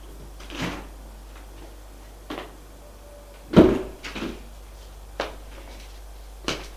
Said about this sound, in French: Il va prendre l'ascenseur. Arrivé à l'étage, il sort de l'ascenseur.